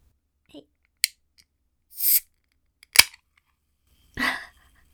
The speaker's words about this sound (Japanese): ストロングゼロ開けます。聞こえるかな。いけますよ。開けますね。